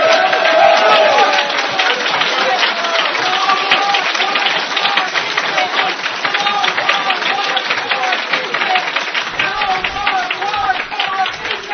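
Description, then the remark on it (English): A large crowd cheers and applauds loudly and steadily, with dense clapping and scattered shouting voices running for the whole stretch without letting up. “Now, we've got enthusiastic cheering section.”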